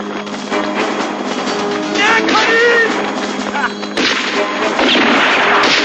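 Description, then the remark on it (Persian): A loud, dense barrage of gunfire crackles almost nonstop, with heavy booms underneath and strained voices shouting through the din. “تیر اندازی نکنید.”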